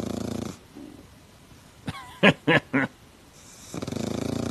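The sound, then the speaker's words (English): A pug that has had rhinoplasty snores: a thin wheezy whistle, then three quick, raspy snorting breaths in a row, with steady humming tones before and after. “This is her snoring pug, Steve.”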